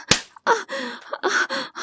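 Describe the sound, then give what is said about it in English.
One sharp slap of a hand on bare buttocks rings out near the start, immediately followed by a run of loud, drawn-out moaning vocal sounds. “Someone slapped my fucking ass.”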